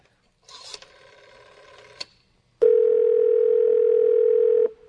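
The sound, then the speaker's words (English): A telephone handset is picked up with a brief rustle and click to call the police, then a loud, steady dial tone hums continuously for a couple of seconds before cutting off. No one speaks. “All right, I'll call the police.”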